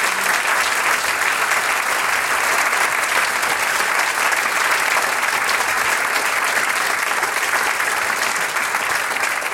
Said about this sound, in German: Danke, das ist euer Applaus noch einmal für dieses schöne Eröffnungsstückel.